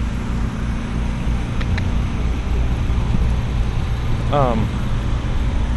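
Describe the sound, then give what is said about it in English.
Steady, loud road traffic rumbles past a driveway, with engine drone and vehicles passing, and a brief rising whine from a passing vehicle near the end. “And let's see if we can get across this driveway. This traffic pass.”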